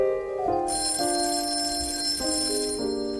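A telephone rings loudly and continuously for a couple of seconds, its bright metallic bell clattering over a steady sequence of tones, with no one talking.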